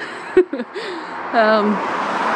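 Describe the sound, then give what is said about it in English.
Steady traffic noise on a main road rushes in the background at a bus stop, swelling slightly partway through, while voices speak briefly over it. “So the bus stop's kind of like on a main road, as you can hear”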